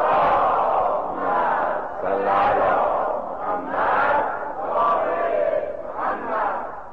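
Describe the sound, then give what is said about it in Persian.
A large crowd loudly chants salawat in unison, many voices blending into a dense, sustained roar that swells and dips in rhythmic phrases for several seconds. “انشاءالله که گیرهای قلبیمون با صلوات بلند فرستادن همش مرتفع میشه. صلوات بلند خواند کنید.”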